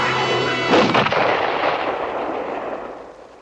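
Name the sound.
rifle gunshot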